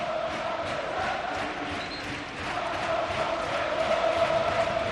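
A dense football stadium crowd roars and cheers steadily for the green-and-white team as it holds on against Las Palmas, celebrating each recovered ball almost like a goal; a loud continuous wash of voices with a sustained chant-like tone running through it and swelling slightly toward the end.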